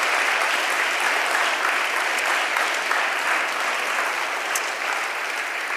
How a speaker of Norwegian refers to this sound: Kan vi ikke gi Vegard og gjengen en god applaus?